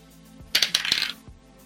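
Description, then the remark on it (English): A short burst of dice clattering across a hard tabletop, a quick series of bright, sharp clicks and rattles that settle within about half a second, with no voices. The dice are rolled for a dexterity save in a game, landing on 4. “Okay, the dice is 4.”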